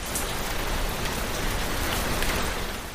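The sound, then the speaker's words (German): Heavy rain pours down steadily during the May-to-October rainy season in northern Thailand, a dense, continuous hiss of drops drumming on surfaces, loud and unbroken for the whole stretch with no voices. “Im Gegensatz dazu ist zwischen Mai und Oktober Regenzeit angesagt, also da kann es dann auch schon mal ein bisschen schütten.”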